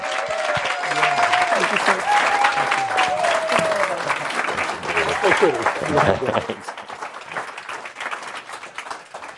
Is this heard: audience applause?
yes